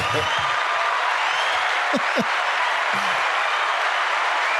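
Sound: applause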